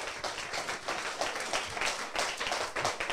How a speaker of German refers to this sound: dein Applaus.